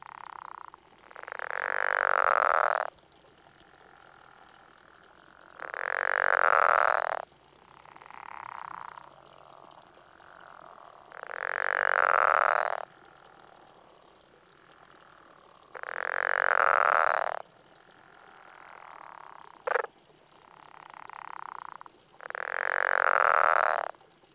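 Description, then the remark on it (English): A pickerel frog, an eastern species with square spots on its back, gives five long, low snoring calls, each lasting a second or two and spaced several seconds apart, with fainter croaks and a brief click between them. Fairly loud, with no talking. “The pickerel frog makes outlandish snoring sounds.”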